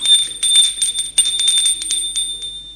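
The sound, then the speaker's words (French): A doorbell rings with a shrill, steady high tone and a rapid clattering trill, going on without pause for nearly three seconds, with no voices. “On sonne à la porte.”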